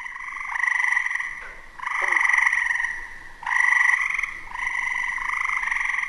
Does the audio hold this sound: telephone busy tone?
no